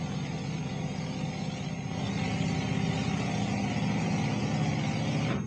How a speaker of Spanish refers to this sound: El motor de un avión. ¿El motor de un avión? Está mi piloto calentando el motor.